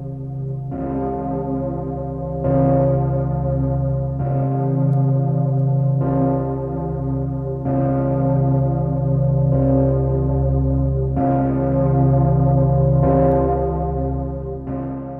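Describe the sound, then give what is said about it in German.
A deep church bell strikes steadily, about every two seconds, each loud stroke ringing into the next so the rich, humming tone never fades. No voices are heard. “Jeder Schlag der Glocke kann mir Vergangenes wieder ins Bewusstsein rücken.”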